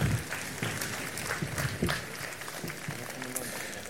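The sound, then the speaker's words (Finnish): An audience, asked to applaud the miracle of a newborn's arrival in a story being told, claps steadily in a dense, continuous patter, with murmuring voices and a few scattered calls mixed into the applause. “Lääkäri ojentaa siinä onnelliselle äidille esikoisen ja pyydän yleisö antamaan aplodit tälle uuden elämän ihmeelle.”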